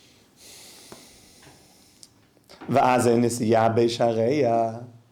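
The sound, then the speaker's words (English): A person imitates heavy, rapid breathing with a run of loud, voiced huffs in quick rhythm, following a couple of seconds of faint, quiet breath noise. “So now this strong breathing that's happening to cool down the heart.”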